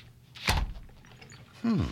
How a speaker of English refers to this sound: A slamming door.